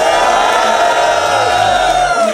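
A loud, steady roar of a crowd of young men cheering and shouting on request as the third round is announced, many voices blending into a dense wall of noise that holds at full volume for the whole stretch.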